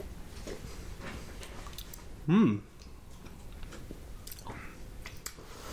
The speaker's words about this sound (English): It smells very malty, this. It does. It's got another smell that I can't think. You're not getting a lot of hop through. So let's go for the big gulp.